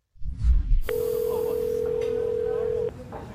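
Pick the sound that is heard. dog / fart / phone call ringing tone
phone call ringing tone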